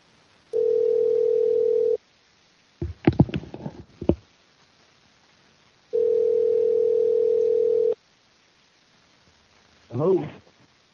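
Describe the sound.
A telephone tone hums steadily for about a second and a half, twice, as a radio show places a call to a guest, with a brief clattering of handling noise in the gap and a short voice fragment at the end.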